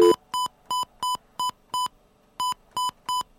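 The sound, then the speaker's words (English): Telephone keypad tones: eight short, evenly spaced beeps, clear, with a slightly longer pause after the sixth before the last three, as a phone call is dialed, dialing 9 to get an outside line. No voices. “All right, let's try and make a phone call here.”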